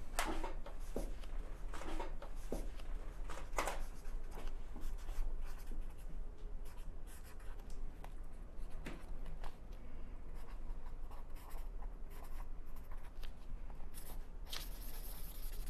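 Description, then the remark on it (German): A pen scratches across paper in steady strokes with brief pauses between words as an entry is written in a guestbook, a continuous quiet writing sound with occasional taps and rustles, no voices. “Und deshalb dürfen Sie sich jetzt natürlich auch in unser Gästebuch der Riesen eintragen.”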